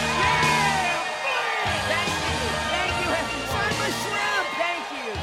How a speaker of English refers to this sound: Flint basks in the applause.